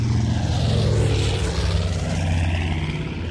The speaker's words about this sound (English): The morning of Saturday, July 18, 1945, a United States Army Air Force's B-25 Mitchell was flying from Bedford Army Airfield in Massachusetts to New Jersey's Newark Airport.